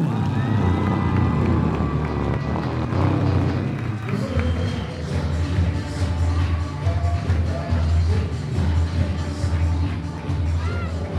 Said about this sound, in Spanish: Por favor, vamos a saludar con un aplauso y con una bulla al señor Tostao.